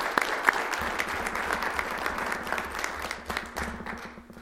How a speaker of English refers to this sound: Okay, our winner is Jake Greer. Jake Greer, all right. Let's give Jake a round of applause.